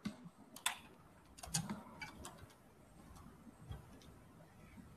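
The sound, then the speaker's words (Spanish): Irregular light clicks and taps, like keys being struck on a keyboard, with soft background murmur and no clear speech. “Es que yo pensaba que en esto iba a hablar, pero no, seguía un teclado ahí raro.”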